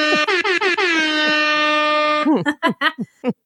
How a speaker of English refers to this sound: Air horns.